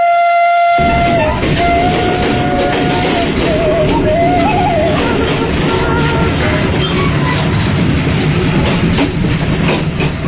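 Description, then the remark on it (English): A diesel train engine roars loudly and steadily on the way to Kampung Naga, Tasikmalaya Regency, West Java, with dense low rumble and rattling throughout, a brief horn-like tone near the start, and no talking. “The roaring sound train diesel machine takes us to a place which amazes both natives and foreigners named Kampung Naga.”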